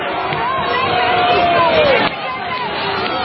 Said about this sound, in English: So there's Antifa smashing a window. And they're booing. And they're chanting, "That's Antifa."